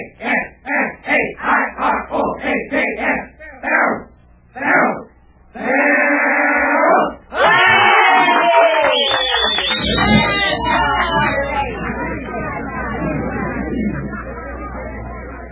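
A crowd shouts a rhythmic school cheer, short chanted bursts that quicken, rise into a long sustained yell, then break into loud, scattered cheering and hubbub.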